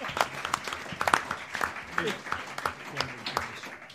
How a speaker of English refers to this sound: Give him a round of applause for standing up being counted.